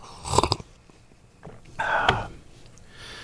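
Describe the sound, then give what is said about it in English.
Quiet sipping of milk: a brief wet slurp, a pause, then a longer drawn-in sip with a soft swallow. No one speaks. “I'm going to take another little sip of more milk here.”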